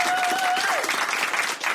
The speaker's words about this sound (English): The only lingering effect is occasional pity applause.